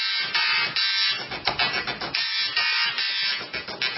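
A dot matrix printer rattles out a melody, its harsh buzzing print head pulsing in short rhythmic bursts of different pitches, loud, with no voices.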